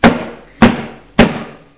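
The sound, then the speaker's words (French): Three firm, evenly spaced knocks on a wooden door, each a solid thud with a short ringing decay, fairly loud with no voices. “La soupe est à peine mangée que l'on frappe à la porte.”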